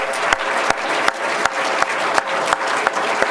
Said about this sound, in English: We need to do two more things. One is to give him another round of applause.